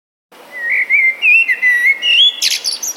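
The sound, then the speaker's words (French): A Eurasian blackbird sings a clear, fluty warbling phrase that ends in a burst of high, squeaky twittering notes, fairly loud with no voices present. “Vous sélectionnez la partie du chant qui vous intéresse. Ça réfléchit. Et résultat, le merle noir.”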